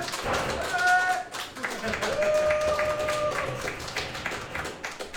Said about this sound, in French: Je voudrais, s'il vous plaît, que vous fassiez un maximum d'applaudissements pour celui qui m'accompagne